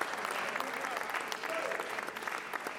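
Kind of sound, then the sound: crowd, audience clapping hands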